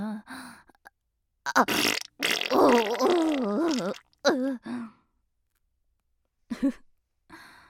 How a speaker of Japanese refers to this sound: お迎えのおならが漏れてしまいました。